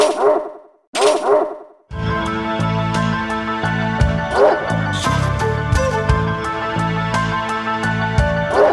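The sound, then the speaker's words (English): Two identical sharp dog barks, the same sampled bark sound effect repeated without variation, ring out back to back, loud, followed by bright, busy background music with chiming notes and occasional thwacks. “It does seem like it's the same bark sampled and put every single time, like there's not variations.”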